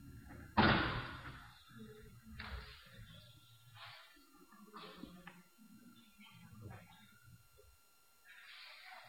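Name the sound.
door being shut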